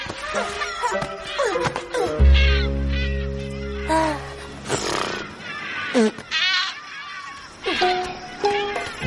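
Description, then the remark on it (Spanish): Seagulls call repeatedly in harsh, bleating cries that overlap and come in bursts, loud, with a low sustained hum briefly underneath, as they flutter above the surface. “Las gaviotas revolotean en la superficie.”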